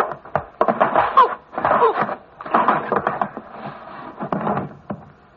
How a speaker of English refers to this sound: Let's go. All right. Open the door. Yeah.